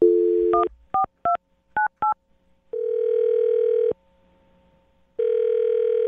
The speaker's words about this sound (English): Here we go. I'm going to dial their phone number.